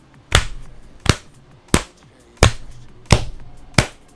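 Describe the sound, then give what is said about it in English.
Six sharp hand claps land at an even, unhurried pace, each a crisp, bright smack standing out clearly against faint background noise, with no talking. “Now clap your hands.”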